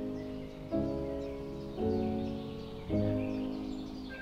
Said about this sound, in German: Den Ruf des Kuckuckweibchens hört man selten. Es verhält sich heimlich, aus gutem Grund.